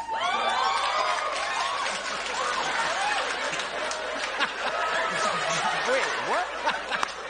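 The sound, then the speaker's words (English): Fallon's studio audience erupts in a mix of booing and cheering at news that the 2020 census showed the number of white people in the United States went down, a dense, steady wash of overlapping voices with rising and falling whoops that keeps going for several seconds without letting up. “He looked at them and goes, I wasn't expecting anybody to boo or cheer.”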